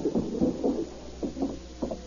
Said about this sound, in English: A few minutes later, Hamilton Meade heard a rap on the door.